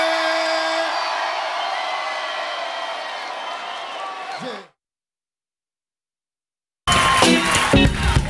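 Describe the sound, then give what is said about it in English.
A crowd at a live show cheers and whoops in a loud, steady roar for several seconds after being asked from the stage to make some noise, then cuts off abruptly. After a couple of seconds of silence, a burst of loud, dense sound returns. “Somebody make some noise in this joint, man.”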